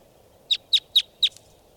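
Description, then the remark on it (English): A lone wild bird in flight gives four sharp, high-pitched calls in a quick, even series, each a bright clear note standing out over a low, steady background hiss. “Pointing out the wild bird. In flight. Lone bird.”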